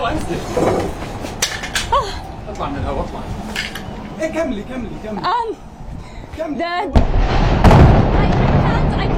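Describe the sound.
Several heavy bomb explosions from an airstrike on Gaza boom, sharp blasts spaced a few seconds apart with the loudest near the end, while a woman journalist reporting the strike from a rooftop talks urgently over them.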